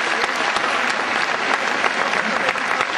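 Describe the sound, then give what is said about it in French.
Steady, dense applause from a crowd, many hands clapping loudly and continuously for a few seconds, with no clear voices standing out. “Je vais vouloir venir faire l'entrée de départ sous nos applaudissements.”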